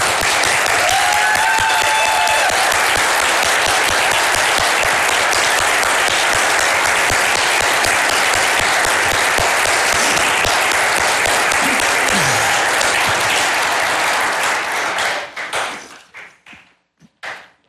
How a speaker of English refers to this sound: And I would ask each and every one of you in this place that's able to stand to your feet in closing and give our Lord, the one and only true and living God, a hand of applause that'll shake the timbers in this place.